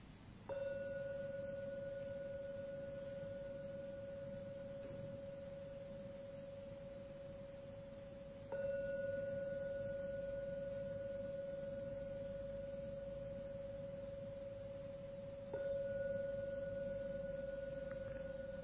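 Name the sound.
meditation gong ringing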